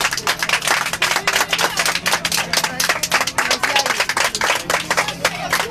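A burst of steady applause on an airplane, filmed on video, for a 21-year-old woman from Gothenburg. Many hands clap in a quick, dense rhythm for several seconds, with a faint low hum running underneath throughout.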